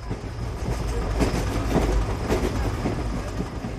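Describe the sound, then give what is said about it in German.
A train rumbles steadily along the rails, its wheels clicking over track joints in a loose repeating rhythm beneath a continuous low roar, fairly loud with no voices. “Eine Alternative zum Flugzeug ist die Bahn.”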